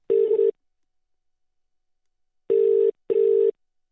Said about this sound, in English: Okay, I'm just ringing some people now. See if they get it.